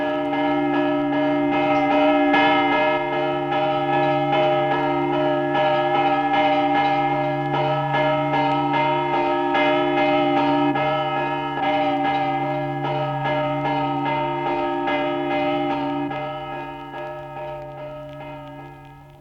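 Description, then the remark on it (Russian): Church bells ring a Rostov-style Ionafan chime in a full, continuous peal, a deep sustained bell tone underneath and many small chiming bells striking rapidly in a lively, festive pattern, loud with no voices. “В конце XIX века музыкально одаренные ростовские звонари создали свой оригинальный йонафановский звон, в котором мелкие зазвонные колокола передают веселый праздничный трезвон, а средние открывают творческий простор для новых мелодий.”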